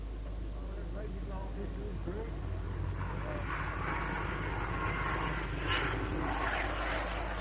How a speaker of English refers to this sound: They're here to celebrate the 50th anniversary of the birth of Comet One, the world's first jet airliner. The highlight of the evening is a flypast by Comet's closest surviving relative, the RAF Nimrod jet.